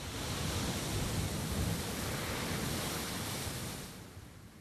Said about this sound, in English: I looked and saw a great big wave rise out of the ocean and hurtled through the sound, and I was not afraid. The wave crashed and broke about me, cleansed me.